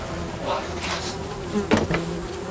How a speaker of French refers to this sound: qu'est-ce que c'est que ce bruit qui vient du train ? Il y a des milliers de cadavres là-dedans. Le bruit, c'est les mouches. Il y a des nuées de mouches dans les wagons.